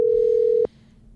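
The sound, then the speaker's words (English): A steady electronic ringback tone from an outgoing phone call hums for just over half a second, then cuts off abruptly, leaving faint background noise. No one speaks. “If he answers the goddamn phone.”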